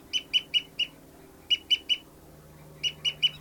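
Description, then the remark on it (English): A bird's fight call given during a fight between birds, with one bird flying: sharp, high-pitched harsh notes in three quick bursts of three or four calls each, loud against a low steady hum, with no talking. “Fight call by 59's flying, oh, that was 273 flying around.”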